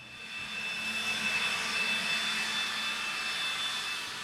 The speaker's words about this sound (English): The familiar roar of leaf blowers can often be heard outside on a brisk fall morning. The crunchy brown leaves litter people's yards and walkways. The gust from a leaf blower whisks the leaves into the street.